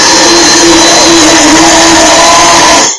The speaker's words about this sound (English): So off the heat, and I start blending carefully at first, so we can expel any air bubbles that's trapped in the blender, and then we can just go.